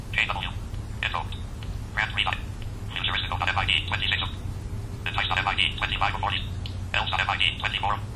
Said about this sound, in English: So I'm going to select this. And it should play this. So that is my current ringtone.